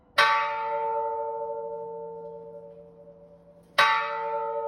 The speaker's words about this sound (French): Et un son encore jamais entendu résonne finalement aux oreilles des habitants de toute la région. La cloche sonne pour la première fois.